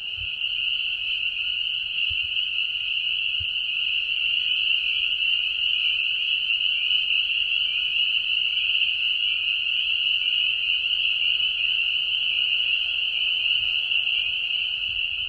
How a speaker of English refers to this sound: Peepers are hard because they drowned out other noises. So some of the frogs make snoring noises, and that's what I thought I might hear. Pickerel frog was a possibility here. Might hear leopard frogs. They make a nice snoring sound.